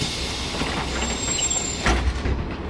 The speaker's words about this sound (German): Der Hop-on-Hop-off-Bus schaukelt weiter, direkt zum Fuß der Chefrin-Pyramide